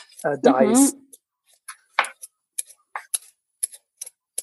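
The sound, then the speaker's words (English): A brief voice, then a knife dicing peeled potatoes on a board into pieces of roughly 1 centimeter (half an inch): about ten crisp, sharp chops in a loose, uneven rhythm, each short and clicky with quiet gaps between. “I'm going to just slice them, dice them really.”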